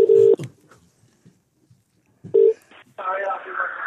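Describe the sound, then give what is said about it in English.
A telephone ringing tone sounds twice, each a short steady buzz separated by a couple of seconds of near silence, then a voice comes on the line as the call is answered. “we just ring Tom Daly up and try and think of an excuse why I'm calling him”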